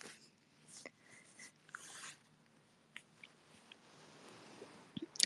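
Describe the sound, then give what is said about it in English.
A person quietly imitates a small dog, making soft, breathy yips and whimpers in scattered short bursts, with a faint sharp click near the end. “I'm pretty good at, like small dog.”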